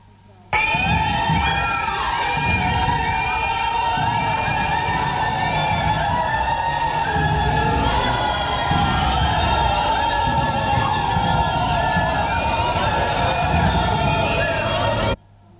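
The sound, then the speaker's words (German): A large crowd of women demonstrators chants and shouts together under the bridge at the Hauptwache, high voices loud and unbroken for the whole stretch, with the overlapping calls echoing under the bridge. “Einzig vor der Oriana Hauptwache unter der Brücke haben die Frauen die gute Akustik genutzt, um akustisch ihre Menge zum Tragen zu bringen.”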